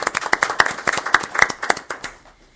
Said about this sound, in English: Now we can give her a clap.